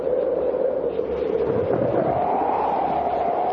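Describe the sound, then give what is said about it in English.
Strong tropical wind and rain, simulated by a weather-control device, roar steadily and loudly throughout, a dense continuous rush with a droning howl that slowly rises in pitch. No voices are heard. “Next to tropical winds and rain.”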